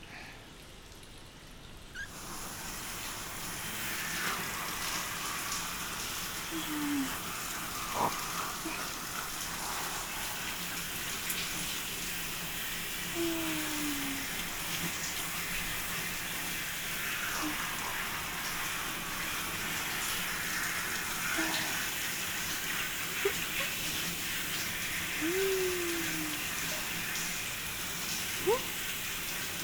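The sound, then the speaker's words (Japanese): A shower in the washing area of a hot spring runs in a steady, even hiss of spraying water rinsing the whole body down after a massage, starting after a brief quiet moment and continuing unbroken for half a minute, with faint drips and taps and no talking. “ではでは、最後にシャワーで全体を流していきましょう。”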